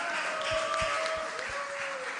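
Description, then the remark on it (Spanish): An audience applauds a band during the second day of Pascua 2021 in a steady, dense wash of clapping that holds for the whole two seconds, with faint sustained tones ringing underneath. “Así que un fuerte aplauso para ….”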